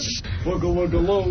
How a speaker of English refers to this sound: All right. I'm over here now. I'm a hissing cockroach.